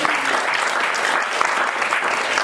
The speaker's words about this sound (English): Give him a round of applause too.